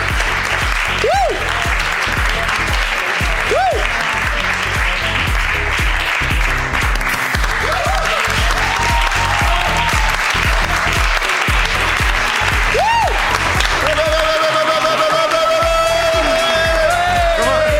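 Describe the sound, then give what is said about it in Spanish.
Sustained audience applause for the last person called up that night, a dense, steady wash of clapping that stays loud throughout, with a few brief whistles or cheers rising over it and a tonal whistle near the end. “Ahí está, venga, un aplauso.”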